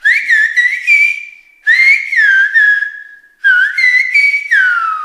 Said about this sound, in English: Children across the island are learning Silbo Gomero, the ancient whistling language that has been used on the island for centuries. It's a type of whistled Spanish and can be heard up to 3 kilometers away.